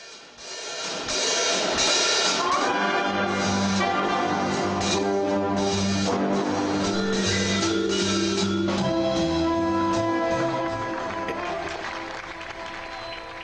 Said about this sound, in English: You hear the applause there?